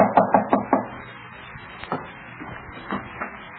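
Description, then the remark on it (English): Four quick, evenly spaced, crisp knocks on the door of a rented room in a small boarding house in Geneva, followed by a few softer scattered thuds. “in the small Geneva boarding house where she keeps a room, Elizabeth hears a knock at her door”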